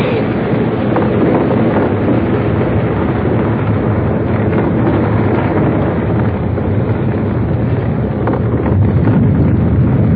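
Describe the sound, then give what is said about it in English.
A sustained, heavy roaring rumble of a cliff overhang collapsing, with rocks tumbling and crashing throughout at a steady loud level for about ten seconds, with no voices. “Look out! Come on, son. The whole thing's coming down. Run for your life!”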